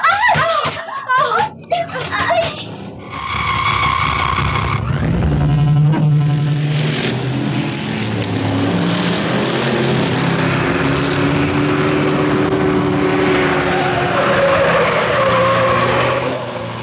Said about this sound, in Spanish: y sigue la desenfrenada carrera ladera arriba. El pequeño auto da tumbos y saltos tremendos.